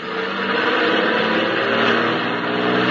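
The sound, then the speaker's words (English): A loud truck engine roars and revs steadily, holding a strong rumbling drone throughout as the truck accelerates hard to squeeze past a blockage on the road shoulder, with no voices over it. “Well, we'll have to try and get past it. Yeah, it looks like you might squeeze by on the shoulder.”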